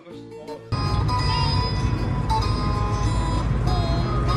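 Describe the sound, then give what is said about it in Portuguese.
A car outside, heard as a loud, steady rumble that cuts in abruptly after a brief voice, carrying faint tonal, jingle-like notes over it for several seconds. “O carro lá, da Roma.”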